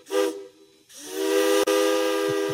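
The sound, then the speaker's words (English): A steam train whistle from an advertisement for the Mount Hood Railroad's Christmas Town train sounds in two blasts: a short, breathy toot, then a long sustained cry with a brief break near its end, rich and hissy, fairly loud and unaccompanied by speech. “There's a whistle in the distance, a trembling in the air.”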